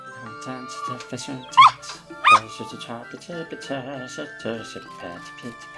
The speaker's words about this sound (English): Oh, here's a good puppy. She's gonna like you, won't she?